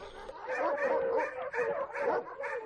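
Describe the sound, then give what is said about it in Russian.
Several dogs in a kennel bark in a rapid, overlapping chorus, a steady stream of loud yaps and woofs with barely a pause between them. “Поднялся вдруг весь псарный двор. Почуя серого так близко забияку, псы залились в хлевах и рвутся вон на драку.”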